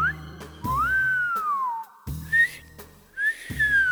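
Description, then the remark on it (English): A person whistles a lure whistle in three short phrases, each a clear tone that swoops up and then glides slowly down, fairly loud, with low thuds underneath. “But what about the other whistles?”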